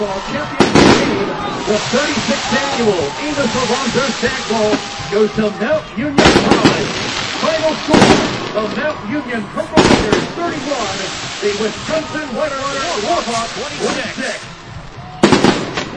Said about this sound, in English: 31-26, Mount Union wins Stag Bowl 36, the champions of Division III football for the year 2008, and champions for the 10th time in Division III football history. And there go the fireworks.